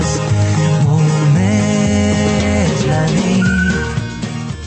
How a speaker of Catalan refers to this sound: Com enganxa aquesta xiuladeta? Ja us dic que estareu una bona estona sense treure-us la del cap.